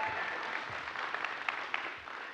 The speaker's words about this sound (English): Y'all give my wife a round of applause, please.